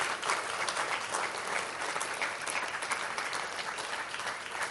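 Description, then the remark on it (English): A crowd applauds steadily in celebration during a service, a dense wash of many hands clapping at once that holds at an even, fairly loud level without pause from start to finish. “Let's give a clap and kind of join in.”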